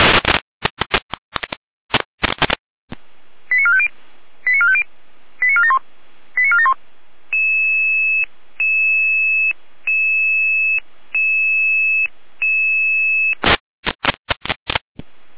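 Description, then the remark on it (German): A radio dispatch alert from dispatch in Jena, calling Red Cross units to a trauma call in Probstzella: after bursts of crackly noise, a quick series of short tones, then steady beeps pulsing on and off in an even rhythm, before more noise bursts close it out. “Zeitschema mit Alarmierung.”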